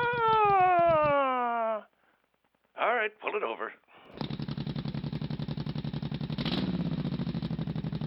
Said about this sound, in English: Oh, there's a motorcycle outside.